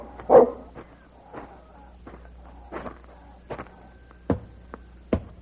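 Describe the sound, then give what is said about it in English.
A dog named Vicky, chasing after a stranger, lets out a string of sharp, irregular barks, a loud one at the start, softer yaps in between, and two strong barks again near the end, with no one talking. “Your dog is far from courteous.”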